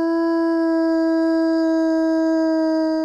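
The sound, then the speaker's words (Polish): A long, steady howl from wild wolves on the snowy plains of Alaska or Canada holds one clear, unwavering pitch for several seconds, loud, with no speech or other sounds around it. “A teraz przeskakujemy na śnieżne równiny Alaski czy Kanady do dziko żyjących wilków.”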